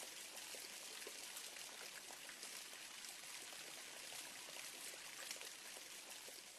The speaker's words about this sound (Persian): صدای بارانه. آفرین، این همون باران است که الماسک میخوره بعدش باران میباره؟ این به نظرم که صدای همون باران باشه.